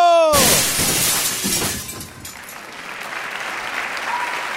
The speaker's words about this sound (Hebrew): אם אלוהים היה חי על כדור הארץ, היו נשברים כל החלונות שלו!